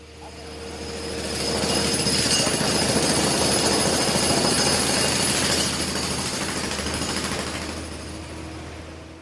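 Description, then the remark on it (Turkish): Heavy machinery rumbles steadily at a huge construction site in the Çoruh River basin, a broad engine roar with a faint mechanical whine that swells in, holds for several seconds, then fades away. No one speaks. “Bölge bitmek bilmeyen devasa inşaatlarla bir şantiye halinde.”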